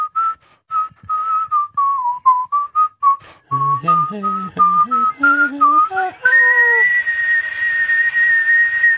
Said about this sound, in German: Kannst jetzt mal aufhören mit dem Scheißgepfeife, sonst hau ich dir sowas von eins in die Fresse, du. Nee, okay, dann pfeif erst zu Ende.